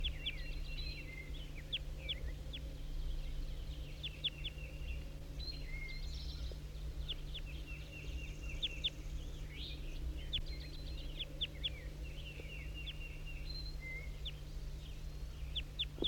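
Calls of a wild red male bird repeat throughout, a busy stream of short, high chirps and tweets in irregular bursts over a steady low hum, with no one talking.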